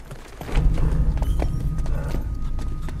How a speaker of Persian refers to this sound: نه گاوای لعنتی تو خیابونه.